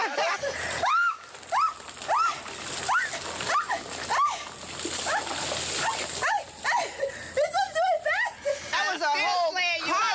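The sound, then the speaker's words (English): Ice water with ice cubes pours slowly from a bucket with a steady splashing, while a dog whimpers and yelps in short, rising cries throughout, growing more frantic near the end. “And he poured slow. One ice cube at a time.”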